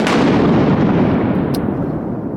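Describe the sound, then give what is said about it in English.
A loud crack of thunder from a lightning strike, a sharp burst that rolls into a deep, sustained rumble and fades slowly without any voices. “That's one of the worst sounds Roy hears.”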